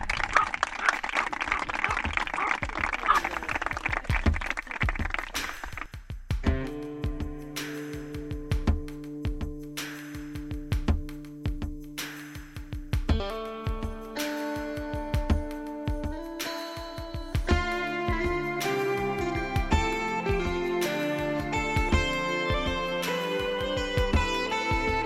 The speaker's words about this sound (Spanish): Por supuesto que gente aplaude y el perro también aplaude. ¿Cómo aplaude un perro? Pues ladrando, claro que sí.